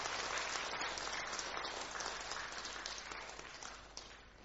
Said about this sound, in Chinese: 好，再俾掌声啊